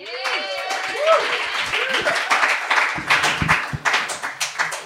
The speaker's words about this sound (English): I assume the applause is for the bass, because I haven't done anything yet, but thank you. The bass, thank you.